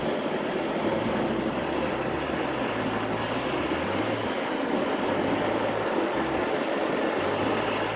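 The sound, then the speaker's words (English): A long train rolls past, a loud, steady rumble with a low droning engine tone that shifts slightly as the cars keep coming, with no voices over it. “Train's in there.”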